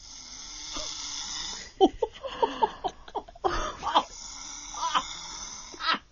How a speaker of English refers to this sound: This is the video I took of … while she snored in her sleep.